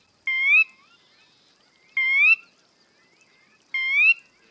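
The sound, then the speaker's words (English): A sora rail gives three clear, rising whistled calls, evenly spaced about two seconds apart, each short and bright, standing out alone against a quiet marsh background. “There are many things people can do to protect birds, like this sora, a bird that lives in marshes.”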